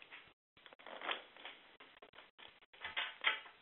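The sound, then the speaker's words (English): A small deck of major arcana tarot cards being shuffled face down, with a steady papery riffling and rustling broken by a few brief pauses; fairly quiet, with no voices. “What I would like you to do is I'd like you to shuffle this little deck of major arcana cards. And shuffle them face down.”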